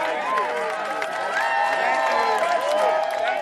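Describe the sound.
A large crowd applauds and cheers as protesters march into the General Assembly building, a steady, dense wash of clapping with many overlapping voices calling out and whooping throughout, holding an even loudness from start to finish.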